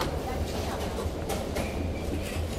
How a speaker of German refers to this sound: Der Zug von Köln nach Frankfurt fährt von Bahnsteig 3, Gleis 7 ab.